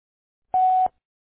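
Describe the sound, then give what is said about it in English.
A single short voicemail beep on a phone line: one steady, mid-pitched electronic tone lasting about a third of a second, clear, with faint clicks at its start and end and silence around it. “Leave a message after the beep and I'll call you back.”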